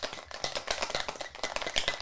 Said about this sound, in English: Bit of ice. Want to hear the ice go plop? Always. My favourite sound. Stand by. That actually was very satisfying.